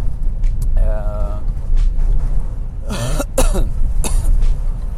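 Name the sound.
coughing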